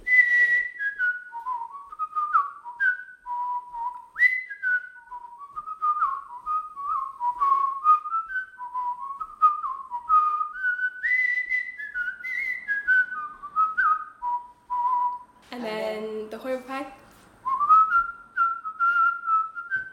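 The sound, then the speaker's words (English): A lively barn dance tune whistled solo, clear, with quick melodic runs and a steady bouncing rhythm; a brief breathy burst interrupts near the end before the melody resumes. “I've already whistled the Handsome Young Maidens, yeah. You heard that earlier, and then the barn dance.”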